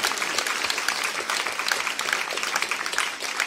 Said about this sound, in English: We give these guys a round of applause.